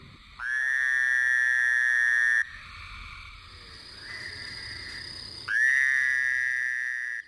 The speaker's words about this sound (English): By early summer, we may hear cricket frogs and this fowler toad.